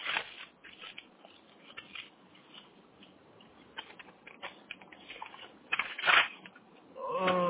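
Papers rustle and crinkle as they are pulled out and shuffled, a steady run of irregular dry crackles with a louder flurry near the end.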